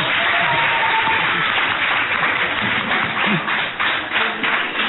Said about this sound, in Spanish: El alumnado de La Salle te va a dedicar un aplauso para que se te quiten los nervios.